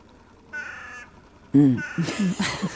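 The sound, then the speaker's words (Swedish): A male curlew gives a single steady, whistling call, followed by several loud, harsh crow caws in quick succession. “Oh, där hörde jag en kuling. En hanne.”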